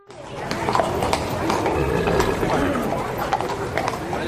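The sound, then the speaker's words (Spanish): Horse hooves clip-clop on a hard street in Valladolid during a Holy Week brotherhood's horseback ride, an irregular, steady stream of sharp knocks against a busy outdoor bed of murmuring voices and crowd noise. “Con su paseo a caballo y también el cornetín de órdenes.”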